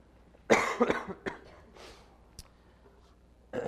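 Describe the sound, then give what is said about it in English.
A harsh, hacking cough from a speaker during a class: a loud opening burst followed by several rougher, weaker coughs and a wheezy breath, then a sharp final hack, otherwise quiet. “Let me apologize in advance for any hacking or sniffling or anything else I may be doing up here during the course of class.”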